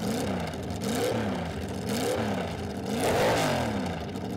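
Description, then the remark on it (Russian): A Chrysler Firepower 6.1-litre V8 engine revs loudly, its pitch climbing and dropping in several quick surges with a rough, throaty rumble throughout; no one speaks. “И сейчас мы буквально пару секунд послушаем звук двигателя Chrysler Firepower объемом 6,1 литра.”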